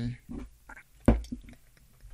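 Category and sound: food or drink, sipping tea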